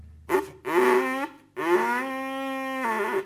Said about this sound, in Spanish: Una cañita, se le hace una lengüetita y se trabaja así, ¿ves? La cañita común. Y uno lo sopla, esa lengüetita vibra y produce un sonido. Le voy a probar, le voy a decir, solita, mira, así. Y la otra con la asta se amplifica el sonido.